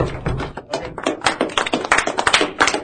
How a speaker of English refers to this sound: Why are we clapping?